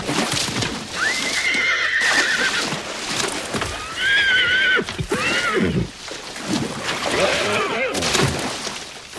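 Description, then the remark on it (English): A horse named Pilgrim clambers to the edge of a pond and rears up, pawing the air, whinnying loudly and shrilly several times in quick succession, with stamping and scuffling hooves between the agitated neighs. “Pilgrim clambers to the edge of the pond, then rears up, pawing the air in front of Tom”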